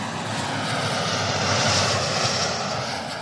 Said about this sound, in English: Through clever material science and engineering, we can keep raising the operating temperatures of these jet engines to improve their efficiency and produce sustainable air travel in the future.